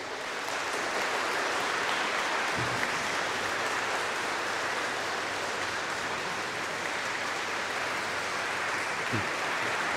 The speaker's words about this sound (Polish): Jeszcze raz gromkie brawa.